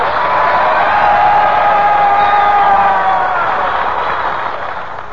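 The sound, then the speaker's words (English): Sustained studio audience applause on the Eddie Cantor Show, after the announcement that Harry Bonzel will not be with the show, a dense, steady wash of clapping that holds for several seconds before easing off slightly at the end, with faint whoops mixed in and no speech. “They always applaud when they hear my name.”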